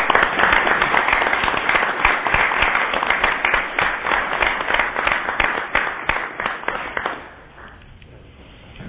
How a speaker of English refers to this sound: So I'd like to take a moment and just congratulate them and give them a round of applause for this effort.